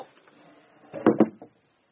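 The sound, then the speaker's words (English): A wooden chair is set down with two quick, fairly loud knocks, then a lighter tap as it settles, with quiet background noise before and silence after. “put that chair down!”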